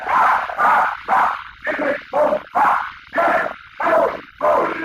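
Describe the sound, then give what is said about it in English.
A crowd yelling the old Bedlam yell in a rhythmic chant, about eight loud, sharp shouted bursts in quick succession with brief gaps between them, rough and raucous in tone. “Listen to those cheers.”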